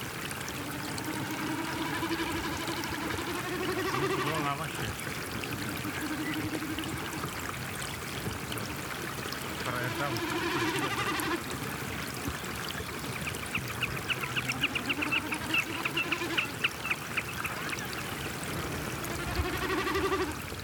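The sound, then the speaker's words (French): Steady running and splashing water during a three-day-old newborn's first bath at the maternity ward in Ixelles, recorded on a phone, with the baby letting out thin, high wailing cries that come and go in short bursts throughout. No one speaks. “Elle pose son téléphone pour enregistrer le premier bain d'un petit qui n'a que 3 jours.”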